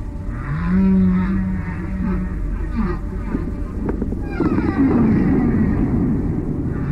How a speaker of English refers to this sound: Researchers say blue whales pass their songs through deep water channels, information traveling across a great stretch of the planet, like an aquatic internet.